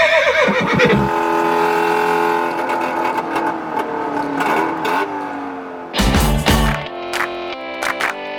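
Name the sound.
horse neighing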